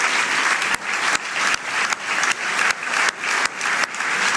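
Dense, sustained applause from a large crowd of FC Porto members and supporters, hundreds of people clapping together in a loud, continuous roar with no voices standing out.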